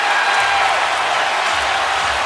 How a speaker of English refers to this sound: So the crowd is louder after JR makes the three than it is when Mike Breen says that it's bedlam here in Cleveland, when it doesn't actually sound, as a home viewer, that it really is